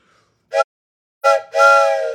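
steam train whistle blowing

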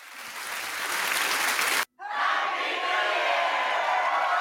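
applause and cheering

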